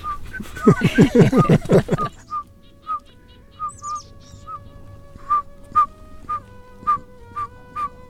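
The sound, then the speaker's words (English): A voice briefly at the start gives way to a steady series of single, clear whistled toots on one pitch, spaced evenly, imitating a pygmy owl's call, moderately loud. “Now you know how to call songbirds in winter, but if you want to find pygmy owls, they vocalize most in March, April, and May.”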